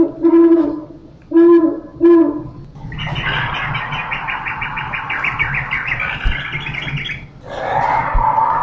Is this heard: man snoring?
no